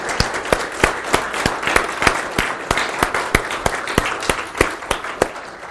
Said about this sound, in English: All right. Amen. Let's give these ladies a round of applause.